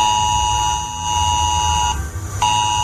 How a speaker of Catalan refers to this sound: Pels vols de les 11, tothom que estigui en aquests indrets rebrà un missatge i el telèfon emetrà aquesta alarma.